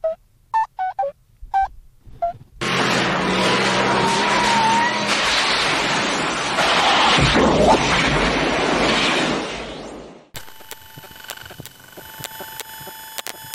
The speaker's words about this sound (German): Was war denn das? Wir müssen irgendwie die Kontrolle über das Auto verloren haben.